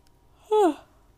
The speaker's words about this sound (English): Tired? Yes, and I can't stop yawning.